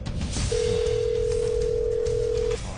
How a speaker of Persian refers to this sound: چرا گوشی رو بر نمیدارن؟